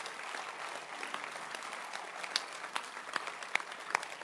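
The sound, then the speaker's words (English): An audience claps their hands for God and for Jesus in a steady wash of applause, with a few sharper individual claps standing out toward the end; no one speaks. “Clap your hands for God and for Jesus.”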